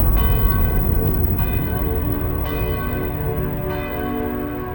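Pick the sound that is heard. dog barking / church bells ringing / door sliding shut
church bells ringing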